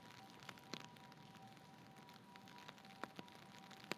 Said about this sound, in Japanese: 肩、雨かかってるよ。